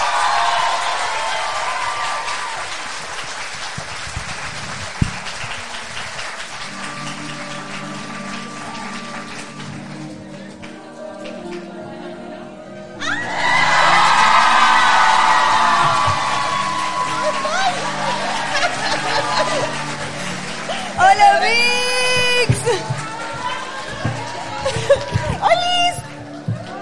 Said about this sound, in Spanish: Así que le vamos a dar un aplauso muy grande